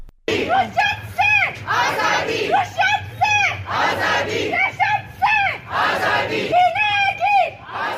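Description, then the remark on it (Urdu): A protest crowd of Hazara community members in Quetta chants slogans loudly in unison, many voices shouting repeated rhythmic phrases in strong bursts with brief gaps between them, continuing throughout. “کوئٹہ شہر کے مختلف علاقوں میں ہزارہ قبیلے سے تعلق رکھنے والے افراد نے احتجاج کیا.”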